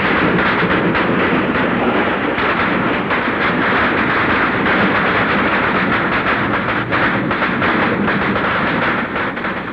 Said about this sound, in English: just a short while back I recorded some of the noises of this war in Elizabethville, and this is what it sounds like when one of the UN planes comes over the city on a strafing run.